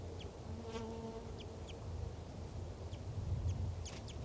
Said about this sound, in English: Wild bird there, light chips. Wild. I believe there are two wild birds here. One's a male and he's perched right above the truck in the branch of a ponderosa pine.